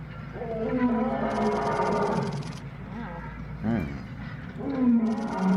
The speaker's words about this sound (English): Oh, these are some lions, by the way.